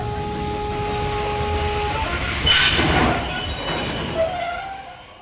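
A train rolls along the rails with a steady rumble, its wheels letting out sustained high metallic squeals that rise and shift, with a brief louder surge midway before the noise trails off.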